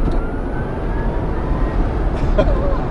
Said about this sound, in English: That's pretty amazing. Like a slingshot, and just as quiet. No exhaust blast, just a gutsy whine when you floor it.